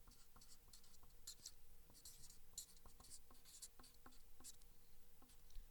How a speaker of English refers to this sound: And what happened at the cross, when Jesus died on the cross, he took this sheet of paper, which is his, and he comes and he does this. He crosses out his name.